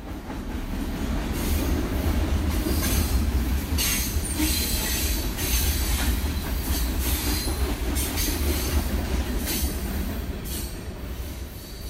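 A train rumbles steadily past over the Beeline railway line in Bloomington, Indiana, heavy low-end roar with rhythmic bursts of metallic wheel noise, loud throughout, no voices.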